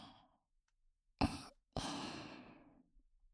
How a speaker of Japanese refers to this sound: じゃあ、今取ったばかりの小さい汚れを私の吐息で一気に飛ばしていきますね。